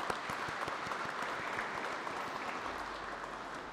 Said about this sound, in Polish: Wielkie brawa.